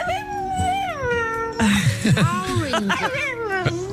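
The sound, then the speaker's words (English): A Chinese dog repeats its owner's words parrot fashion, making whiny, word-like vocal sounds in imitation of speech: a long wavering high-pitched note, then a run of shorter rising and falling yowls, fairly loud and tonal. “This is an amazing Chinese dog who repeats things after its owner in a way that I've only ever heard a parrot do.”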